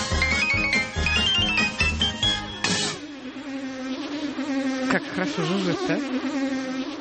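A few seconds of music give way to a steady housefly buzz that drones on, its pitch wavering and dipping as if the fly circles around.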